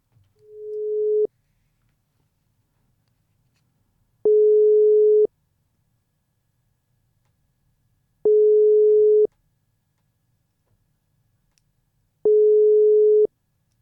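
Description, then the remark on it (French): A telephone ringback tone on an outgoing call from a radio studio to a member of the Belgian delegation aboard a boat of the flotilla: four steady, mid-pitched beeps, each about a second long, separated by roughly three seconds of silence. No voices are heard. “On essaye de l'appeler.”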